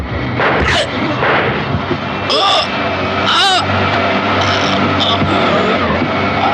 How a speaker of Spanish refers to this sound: se producen dos disparos en el forcejeo